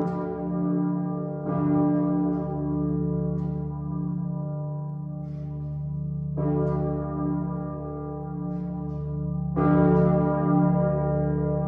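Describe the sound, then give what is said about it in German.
A digitally constructed simulation of a planned new cathedral bell: a deep, heavy bell tolls alone, struck four times at uneven intervals, each strike swelling into a long, rich humming resonance that never fully fades before the next. “Wie sie klingt, das hat der Domglockenverein schon mal digital konstruiert, anzuhören auf der Webseite.”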